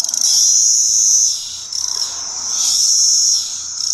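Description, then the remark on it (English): A loud, dense chorus of male periodical cicadas drones continuously, swelling and fading in long waves of shrill buzzing, with no voices present. “And those are the males. The males are out looking for cicada business.”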